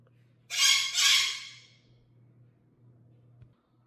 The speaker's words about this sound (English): Squawking birds, I may or may not edit that out. We'll see.